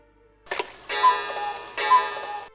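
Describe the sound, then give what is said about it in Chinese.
A wall clock in a living room chimes at midnight with resonant, bell-like strikes: a short first tone followed by two longer ringing chimes that sustain and fade. Fairly loud in the quiet of the late night. “客厅的时钟突然敲响，在夜深人静的午夜，时钟的声响显得格外的大”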